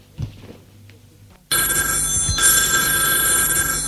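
After a brief quiet stretch with faint low sounds, an old telephone bell suddenly starts ringing, loud and continuous, its bright metallic clatter filling the rest of the moment.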